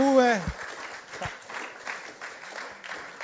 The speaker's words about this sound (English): Can we give the Lord a mighty hand clap? I love this.